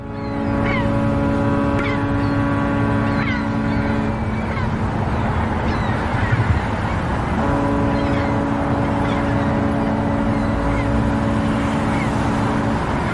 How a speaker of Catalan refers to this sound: con ese sonido del motor de una barca.